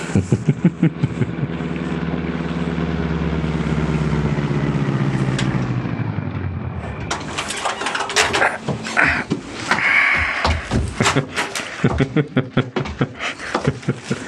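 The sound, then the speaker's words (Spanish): A car engine hums and winds down as the car stops at the curb across the street, then a burst of clatter and sharp knocks follows, including a car door slamming shut as the driver gets out. “Julián Calderón detiene el carro en la acera de enfrente y se baja.”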